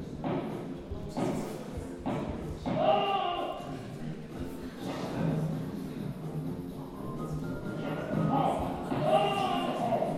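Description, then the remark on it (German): A few sharp, punchy gunshots from an early pseudo-3D raycasting video game crack out in quick succession early on, then a voice talks over steady background game noise. “Ein Schuss, haben Sie das gesehen?”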